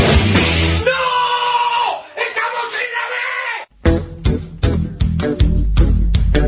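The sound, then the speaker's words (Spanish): A man, a reporter, yells loudly and frantically in a long, strained, sustained cry, shouting that they were in the B, then breaks into rapid, agitated shouting bursts, intense throughout. “Ahí estaba el … gritando como loco que estaban en la B.”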